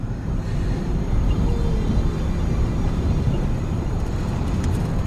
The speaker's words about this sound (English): Now she reclines in the backseat of a car as the woman in the baggy clothes drives with one hand on the steering wheel and the other holding Gia's hand.